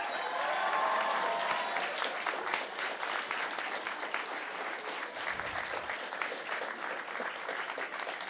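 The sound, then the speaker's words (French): An audience applauds the artists at the first Europa Vox Campus prize ceremony, a dense patter of many hands clapping at an even, sustained loudness for the whole stretch, with a faint cheer or whistle near the start. “Je pense qu'on peut encore les applaudir.”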